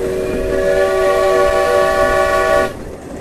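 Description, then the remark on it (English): A steam locomotive whistle, with the locomotive's pressure brought down to 125 pounds, blows one long, loud, steady chord for about two and a half seconds, then cuts off sharply, leaving a low rumble of background noise. “Okay, I'm going to blow the whistle again.”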